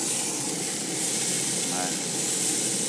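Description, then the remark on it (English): A steak pressed down on a griddle pan sizzles in a steady, dense, bright hiss with fine crackles running evenly throughout, holding a constant loudness from start to finish. “I see little globules of water ooze from the side of the steak as I press it down on the griddle pan.”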